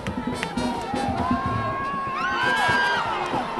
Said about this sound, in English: And don't expect to watch the game sitting down either. Their fans stand, cheer, and party the whole time. Trumpets, drums, dancing, singing. This was at the end of Nigeria's game against Australia.